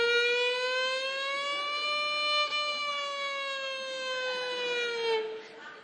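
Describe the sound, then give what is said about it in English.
A single sustained tone with rich, evenly stacked harmonics slides slowly up and down in a siren-like wail, a violin mimicking an ambulance siren, loud for several seconds before fading. “There was an ambulance going down the road.”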